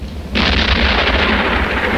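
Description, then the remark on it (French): A deep, sustained rumble rolls in abruptly and keeps booming without a break, like cannon fire or thunder echoing. No voices are heard. “Cela ressemble plus à une canonnade. Canonnade ou tonnerre, pour toi, c'est la même chose.”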